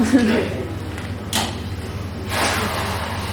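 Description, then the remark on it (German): Two doors are opened in quick succession: a short sliding rush, then a longer airy scrape a second later, over a steady low hum with faint voices. “Ich würde gerne auch öffnen, und zwar die Türen.”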